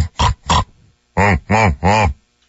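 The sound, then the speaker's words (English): A person imitates a pig, making two quick grunts followed by three longer, nasal oinks in steady succession, loud with no other sounds. “We're now at the point where you are injecting pig and cow noises into the discussion.”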